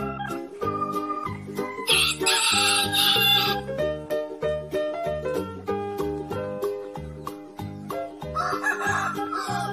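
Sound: rooster crowing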